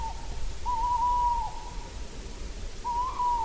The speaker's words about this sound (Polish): Jest puszczyk.